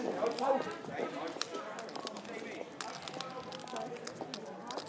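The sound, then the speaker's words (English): Several people's footsteps crunch and thud along outdoors in a steady, uneven rhythm, with indistinct voices murmuring underneath throughout. “We're stomping.”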